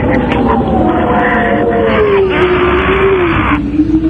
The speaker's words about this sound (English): And you can hear the phone being banged around in the wind there.